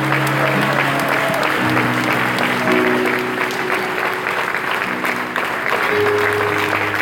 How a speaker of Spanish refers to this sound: Denle un aplauso al Señor Jesucristo. Déselo fuerte, fuerte.